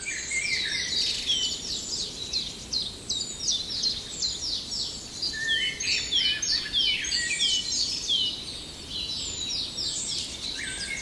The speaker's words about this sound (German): Und dann etwas zarter. Hören wir den wunderschönen, perlenden Gesang vom Rotkehlchen.